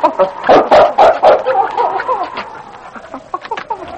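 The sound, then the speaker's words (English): A dog, King, whines in high, wavering cries while scratching at a cabin door rasps in short bursts, fairly loud, tapering off into softer whimpers. “He whined and scratched at the door.”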